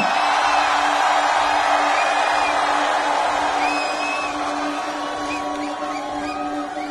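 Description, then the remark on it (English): A large live concert crowd in New York screams and cheers in a dense, continuous roar, with high whoops and whistles cutting through, loud throughout and easing slightly toward the end. “And three, I want everyone to scream the loudest they ever can.”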